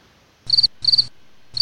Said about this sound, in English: Crickets?